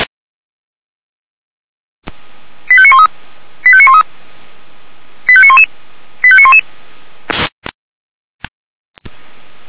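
Four quick bursts of radio pager alerting tones calling out a Red Cross unit to the outdoor pool in Stadtroda, each a rapid sequence of beeps stepping down in pitch, in two pairs over faint radio hiss, followed by a few short crackles of static.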